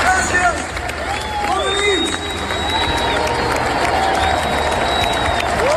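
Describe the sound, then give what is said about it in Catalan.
A large concert audience gives a long ovation to a singer and his band at the end of the show, a dense, steady roar of clapping and shouting with piercing whistles rising above it throughout. “I al final, doncs mira, un comiat a l'alçada i una ovació ben llarga, la que es mereixen tant ell com la seva banda.”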